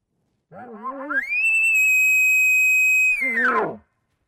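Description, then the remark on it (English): An elk challenge bugle: a low, rising grunt climbs into a long, steady, high-pitched whistle held for about two seconds, then breaks into coarse, guttural chuckling grunts at the end. “This is what the challenge bugle sounds like.”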